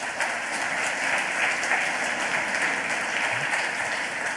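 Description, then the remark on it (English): An audience at a CCC talk applauds the speaker steadily, a dense wash of many hands clapping at once with no pauses, sustained and fairly loud throughout, with no voices on top. “So if you'll please give him a round of applause, and we'll let the talk begin.”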